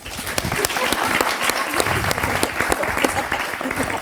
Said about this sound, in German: Vielen, vielen Dank. Können wir den Applaus nochmal haben? Alle, die queer sind, Applaus!